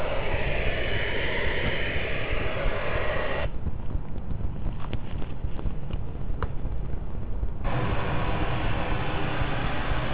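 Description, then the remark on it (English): Steady, continuous white-noise hiss fills the whole stretch at a constant level, turning duller and more rumbling for a few seconds in the middle before the brighter hiss returns. No voices. “Let's have a listen to some white noise if this actually works.”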